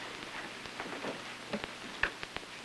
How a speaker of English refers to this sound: All this rain, too.